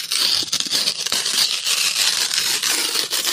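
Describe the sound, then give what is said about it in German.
Paper being torn in a steady, rough rip lasting a few seconds, with crisp crackly texture and small fluctuations but no pauses. No voices. “Papier zerreißen.”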